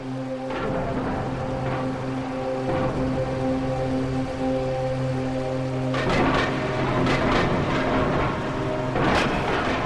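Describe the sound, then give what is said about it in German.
A stormy soundscape over the mountains: a steady, droning howl of wind with a constant rushing hiss, broken by loud cracks and rumbles of thunder near the end. “Wind heulte, Gewitter prasselte und krachte über den Bergen.”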